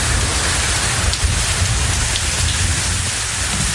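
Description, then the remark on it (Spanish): Steady, dense rain falling in the Balearic Islands, Spain (Mallorca and Menorca), pattering onto a hard surface, a continuous hiss of countless drops with no voices and no pauses across the few seconds. “Pendientes del tiempo hasta ahora, está lloviendo en buena parte de Mallorca, también en Menorca.”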